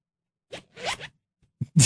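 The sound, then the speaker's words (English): A small wallet zipper is pulled open in a few quick, raspy bursts, with brief pauses between the strokes and a louder final tug at the end. “That was the zipper on her wallet, not her pants, just in case anyone was wondering.”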